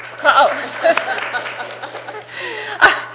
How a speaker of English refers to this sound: asking me to introduce my colleague, and I was clapping for her and not for myself.